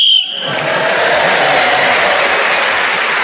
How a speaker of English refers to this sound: So, at the end of the round, Clement Freud was speaking as the whistle went.